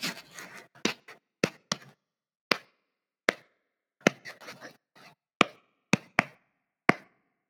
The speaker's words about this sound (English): Okay, maybe one of you could show the listener and just clap along to how fast you were doing it.